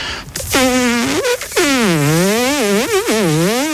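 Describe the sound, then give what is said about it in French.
A voice imitates a buzzing mosquito with a continuous, nasal, reedy drone lasting about three seconds, its pitch wavering up and down in swooping glides with a couple of brief breaks. “d'un moustique qui fait.”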